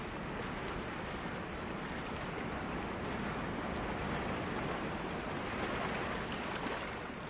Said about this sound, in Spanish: Claro, y más si escuchamos el mar, las olas, que nos recuerdan que Costa Rica está bañado por el Mar Caribe y el Océano Pacífico.